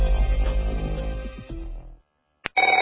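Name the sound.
telephone ringing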